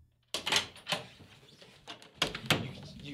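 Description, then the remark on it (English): A door is closed all the way with a few sharp clunks and rattles, one burst early and a couple more near the end, with quiet background noise between. “You closed the door all the way and you locked yourself out.”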